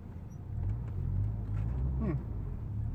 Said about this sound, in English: And a semi-truck going uphill. Whee! Oh, I feel so sorry for that truck driver.